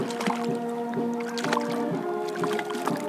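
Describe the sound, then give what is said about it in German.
Splashing and wet thumps on a boat on the Tegernsee, with a steady engine hum underneath and scattered knocks and water sounds as a Renke (whitefish) is hauled aboard. “Genau, da kommt die Ränke ins Boot.”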